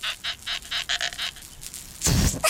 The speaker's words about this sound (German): Diesmal quietscht Kalli mit einem neuen Luftballon.